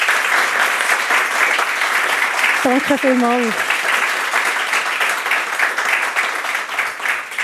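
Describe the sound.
Steady, warm applause from an audience welcoming a guest at an event at the SHL fills the whole clip, a dense wash of many hands clapping, while a woman briefly speaks over it partway through.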